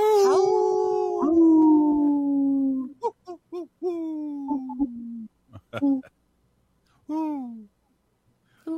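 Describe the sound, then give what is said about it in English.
A person imitates a wolf howl: one long, wavering note that slowly slides downward, then several shorter hooting howls, fairly loud, with brief gaps between them. “That sounds more like an owl than a wolf.”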